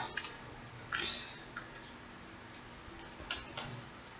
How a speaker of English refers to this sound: For now, let's start shuffling.